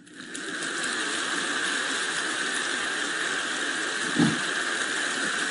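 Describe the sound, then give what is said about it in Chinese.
An audience claps in a steady, even patter that sounds thin and drizzly, holding a constant level for several seconds with no voices over it. “听刚刚的，我刚刚听了你们的掌声，怎么像毛毛雨啊？”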